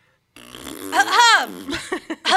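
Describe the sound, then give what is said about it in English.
A voice imitates a fart with a long, buzzing, rising-and-falling raspberry sound, followed by a few short, loud cough-like bursts. “Yeah, like you make a fart noise and I'll do a cough.”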